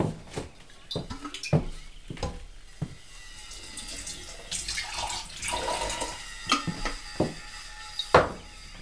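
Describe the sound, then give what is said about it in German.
Mineral water is poured into a glass in a steady, fizzy stream lasting a few seconds, framed by sharp clinks and knocks of glass and bottle being handled. “Ich gebe ihm einen Schluck Mineralwasser.”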